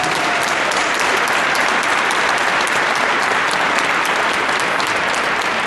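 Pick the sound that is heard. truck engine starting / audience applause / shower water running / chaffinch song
audience applause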